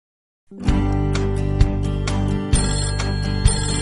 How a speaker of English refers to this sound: Ring, ring, telephone.